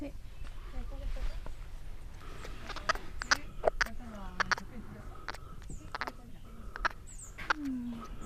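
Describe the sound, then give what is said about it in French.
Two tiny baby monkeys, named Uwanch and Chiham, confiscated from markets and held in a woman's arms, squeak and chirp, a busy run of short, high, wavering calls over a low rumbling background. “qui a deux petits singes dans les bras. Et ils sont donc minuscules.”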